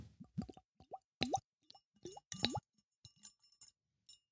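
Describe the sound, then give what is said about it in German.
A drink glugs out of a small, child-size bottle into a glass in a quick series of gurgling plops, each rising in pitch, with a few faint drips and clinks trailing off at the end. “Das Glas sinkt beim Einschenken.”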